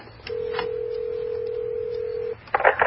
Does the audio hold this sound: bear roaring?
no